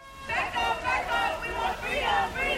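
Steady chatter of dozens of people gathered at an outdoor rally against police violence in Nubian Square, Roxbury, Boston, amid rain and thunderstorms, many overlapping voices talking at once in a continuous murmur at moderate volume, no single speaker standing out.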